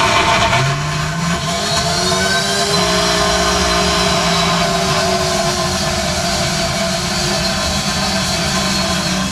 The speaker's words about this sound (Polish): Zamykamy nasz blender. Narobimy mleko migdałowe? Nie, jeszcze nie. Na razie zblenderujemy tylko nasze owoce. Narobimy teraz trochę hałasu, ale to będzie trwało dosłownie chwilkę.